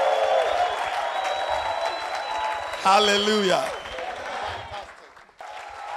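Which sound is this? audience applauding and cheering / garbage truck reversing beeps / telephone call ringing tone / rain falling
audience applauding and cheering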